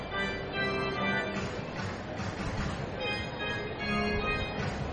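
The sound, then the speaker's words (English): A train pulls slowly by from left to right beyond the right-field wall of a baseball park during a game, a steady low rumble with a droning tonal hum that holds evenly for the whole stretch, with faint background ambience underneath. “And that's where I'm seeing the train pulling slowly by, left to right.”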